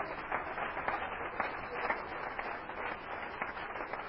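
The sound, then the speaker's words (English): An audience claps their hands for the Lord in a steady, dense burst of applause, many overlapping claps forming a continuous crackling wash that holds at an even level throughout, with no voices. “Let's clap our hands again for the Lord.”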